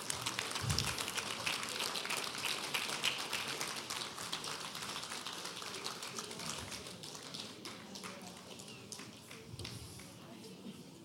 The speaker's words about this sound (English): And if you are a mother, would you please stand and just come and line up down this way? All mothers. Yes, give them a hand clap as they come.